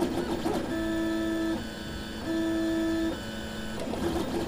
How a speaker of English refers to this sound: The concept of printing parts in space is the same as this 3D printer at the Cincinnati Hamilton County Public Library.